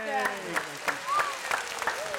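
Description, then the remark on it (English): A small group claps in loose, uneven bursts, steady, while voices chatter and squeal over the applause throughout, a young granddaughter enjoying the applause. “She likes the applause.”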